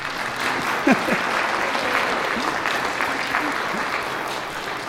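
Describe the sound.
A steady round of applause from a crowd, dense and even for several seconds, with a few faint voices and cheers rising over the clapping.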